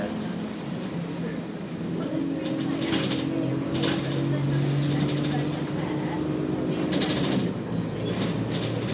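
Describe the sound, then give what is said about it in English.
Steady low rumble of a moving bus interior, with rattling bursts from the front and high squeaks recurring throughout, water swishing outside, plus faint murmured voices in the background. “It's also a rattly bus, as well as being a squeaky one.”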